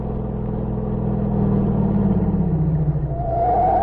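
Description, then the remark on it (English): A car engine hums steadily, its low drone rising in pitch as it accelerates, then easing off, with a faint higher whine near the end; no one speaks. “Then he and Ivan drove to General Luigi's home.”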